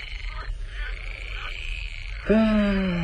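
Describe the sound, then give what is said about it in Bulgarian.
At night, frogs croak amid a steady high chirring of crickets, then one loud, drawn-out croak rises sharply near the end. Nobody speaks. “Штурци! Подвикване на жаби, чухалче.”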